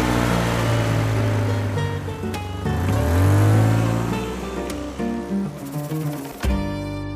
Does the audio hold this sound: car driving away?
yes